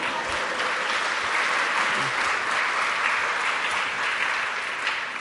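A crowd claps steadily for about five seconds, a dense, even wash of many hands with no pauses, holding the same loudness throughout without talk.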